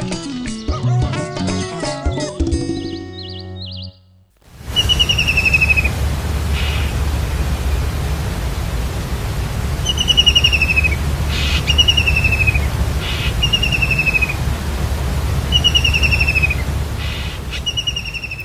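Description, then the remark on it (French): After a brief musical jingle, a common kingfisher, a sparrow-sized bird of up to about 16 cm, gives repeated shrill, thin whistled calls, often in quick pairs, clear over a steady low rumble of running water or wind. “Notre animal mystère du jour était le martin pêcheur, ou common kingfisher en anglais.”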